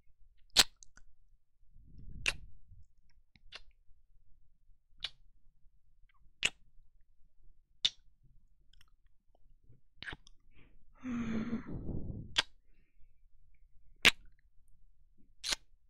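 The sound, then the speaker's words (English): Wet mouth sounds on the ear lobe of a microphone: crisp, sticky clicks repeating every second or so, with a couple of longer, slurpy smacking bursts. No talking. “My saliva is all over the lobe of the ear on my microphone, and it's been dripping down my face.”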